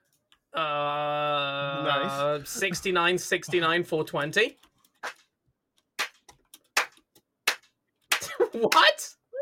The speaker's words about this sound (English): That was my slow clap for you. Your very funny bit.